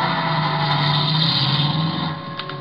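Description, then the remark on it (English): A car engine runs steadily with a broad, humming roar, fading slightly toward the end as the vehicle drives away. No voices are heard. “But when I peeked over the top of the stairs, he was in his car and going.”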